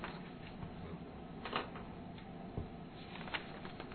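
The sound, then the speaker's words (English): Several soft, brief papery rustles of council members turning document pages during a council meeting, spaced a second or so apart against a quiet, low hum, with no one talking. “I see them turning pages already, my goodness.”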